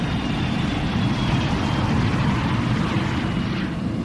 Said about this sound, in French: L'avion décolle.